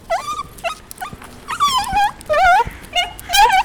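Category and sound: animal, dog whimpering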